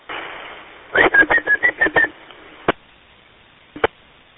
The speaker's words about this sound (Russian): Кто свистел, чего хотел?